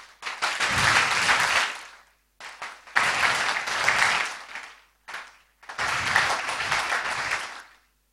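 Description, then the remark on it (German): Crowd applause for a team, in several loud bursts, each a few seconds long, broken by short silent gaps, with a thick, steady patter of many hands clapping and no talking. “Ihr habt wirklich jetzt gerade einen Applaus verdient. Einen Mega-Applaus.”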